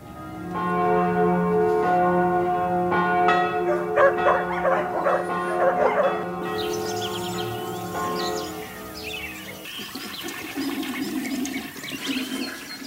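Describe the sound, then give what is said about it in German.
Church bells ring out from a bell tower with strong, sustained tones while dogs bark repeatedly, then the scene shifts to birds chirping and water gurgling down a street drain, all in an outdoor setting without talk. “Ich habe gehört, Hunde, dann noch ein Glockenturm, Vögel und ein Gulli.”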